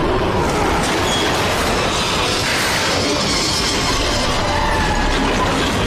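A train roars past in a movie scene, a loud, continuous rumble with metallic clatter and grinding rattles running steadily through the whole passage, no voices.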